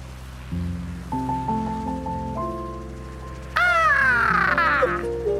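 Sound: birds calling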